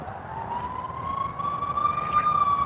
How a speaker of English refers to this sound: If you're hearing a siren, it's not where you are, it's where I am, probably. We've got a fire truck on its way somewhere. I'm pretty sure it's a fire truck. The horn is different on the ambulances.